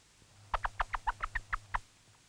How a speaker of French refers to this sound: Et nous allons, en jetant quelques graines devant la poule, stimuler l'émission du cri en prenant bien soin que tous les poussins soient parfaitement dissimulés sous les plumes.